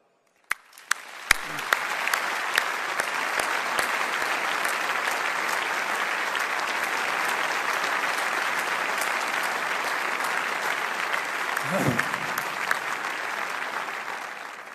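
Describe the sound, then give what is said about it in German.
Sustained audience applause in tribute to a person being thanked, a dense steady wash of many hands clapping at an even level for about fifteen seconds, with a few sharp individual claps at the start. “Vielleicht können wir Ihnen jetzt alle zusammen einen unvergesslichen Applaus bereiten.”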